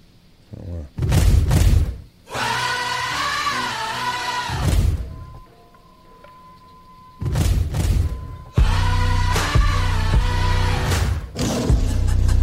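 A new, energetic song with an upbeat workout tempo plays loudly, with a melodic sung vocal over sustained tones and heavy booming drum hits that come in bursts.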